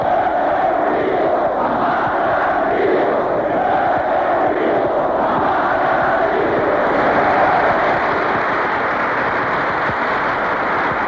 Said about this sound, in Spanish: 2 días después tuvieron lugar unos funerales multitudinarios con gritos por la unidad popular y aplausos a los fallecidos.